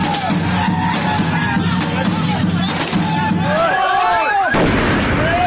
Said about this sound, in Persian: اما در دهه های اخیر هیجان این شادمانی با صدای گاه و بیگاه انفجار ترقه های دستساز و مواد محترقه در کوچه و خیابان ها گره خورده و کام بسیاری از خانواده های ایرانی را تلخ کرده.